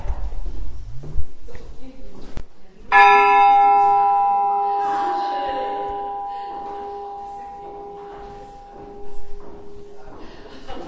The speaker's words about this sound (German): Okay, dann würde ich sagen, bevor wir dann die ganze Produktion beenden, würde ich dann noch mal ganz gerne die Glocke ertönen lassen, die dann praktisch ja auch das Ende der Arbeitszeit irgendwie eingeläutet hat.